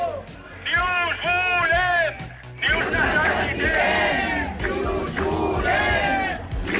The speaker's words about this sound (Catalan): Així es manifestaven professors, famílies o alumnes dels dos dels centres de l'Hospitalet de Llobregat que haurien de participar en aquest projecte.